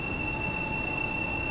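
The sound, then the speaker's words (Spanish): A metro train screeches loudly on its rails, the screech reaching 96 decibels, a steady piercing high whine held over a constant low rumble of wheels and carriage, with no voices. “84 decibeles y los chirridos llegaron a 96 decibeles.”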